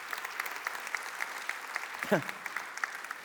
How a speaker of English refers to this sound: If you've given to the church, you got a piece of that. And if you haven't, you're clapping for what somebody else has done.